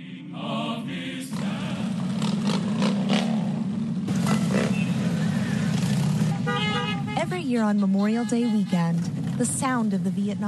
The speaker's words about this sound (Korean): 또 퇴역 군인들에 대한 감사를 잊지 말자는 취지로 오토바이 수천 대의 행렬이 펼쳐집니다.